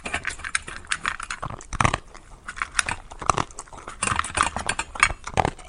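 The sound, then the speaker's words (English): A horse gives a little snort amid a run of crunchy, breathy bursts that sound like chewing, irregular and fairly loud over about six seconds, with no talking. “If you knew that we were looking for a horse making a little snort this morning”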